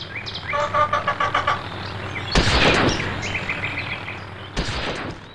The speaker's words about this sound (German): Und so knall ich immer noch Moorhühner ab, schaffe immerhin 400 Punkte. Aber da geht noch was. Nochmal, 440 Punkte.